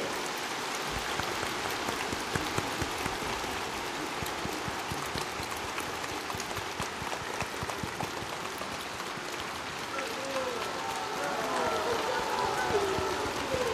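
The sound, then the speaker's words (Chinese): A large audience at a Buddhist gathering claps steadily to welcome 卢台长 (Director Lu) to give a dharma talk: a dense crackling wash of applause that holds at an even level throughout, with faint voices rising beneath it toward the end. “现在，让我们用最热烈的掌声，恭请尊敬的卢台长为我们慈悲开示。”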